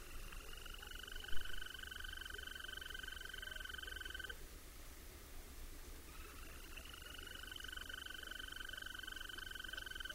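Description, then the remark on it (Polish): Two long, steady trills from a European green toad, each lasting several seconds with a short pause between them, over quiet background hiss, with no voices. “A teraz ropuchy zielonej.”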